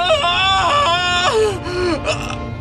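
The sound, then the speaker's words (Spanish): A man lets out a loud, anguished cry, drawn out and wavering, breaking into several falling moans over a low rumbling background, portraying Jesus crying out on the cross as he dies. “Jesús lanzó un fuerte grito.”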